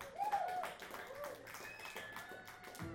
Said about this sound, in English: More applause, thank you.